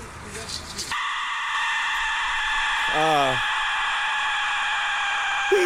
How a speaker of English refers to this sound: Well, let's listen to the Aztec death whistle. So this is the death whistle.